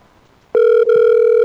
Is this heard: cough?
no